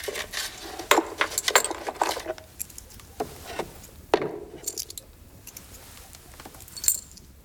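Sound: coins clinking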